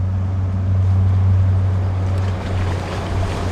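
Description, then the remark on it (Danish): A large motorboat carrying fishing rods passes, its engine droning with a steady low hum that eases and softens toward the end as the boat disappears, set against a broad wash of water and wind, with no voices. “Lyden hænger lidt ved, efter båden er forsvundet.”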